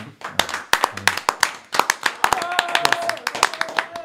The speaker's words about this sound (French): On les applaudit une dernière fois.